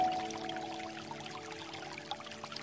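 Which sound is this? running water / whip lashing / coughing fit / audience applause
running water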